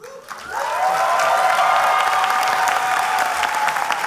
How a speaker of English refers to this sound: The best part is hearing the thunderous applause, she says.